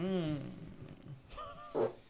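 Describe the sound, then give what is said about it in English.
A voice imitates an explosion: a growling, rumbling vocal roar that fades, followed by a breathy burst and a final loud throaty blast. “So, yeah, there's my explosion.”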